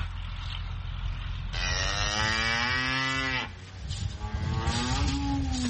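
Cattle moo loudly on a farm after floodwaters have receded, as a farmer goes to feed them: one long drawn-out call followed by shorter lowing, all over a steady low engine rumble like an idling tractor.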